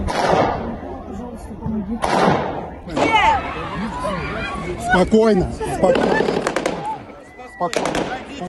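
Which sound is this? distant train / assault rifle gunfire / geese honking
assault rifle gunfire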